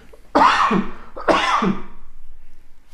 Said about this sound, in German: Das Husten müssen wir rausschneiden.